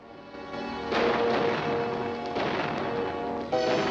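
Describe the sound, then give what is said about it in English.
A few gunshots ring out from below at uneven intervals as robbers hold up a stagecoach in a clearing, each crack blooming into a rolling echo over a steady, noisy background wash. “Hearing the sound of gunfire below, he comes to a ledge and looks down.”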